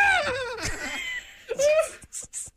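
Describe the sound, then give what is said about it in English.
A person reenacts a scream of terror: a high, wavering shriek, a second shorter shriek rising after a brief pause, then dissolves into breathy bursts of laughter, fairly loud. “So is there any way, shape, or form, any way that you could give us that scream again?”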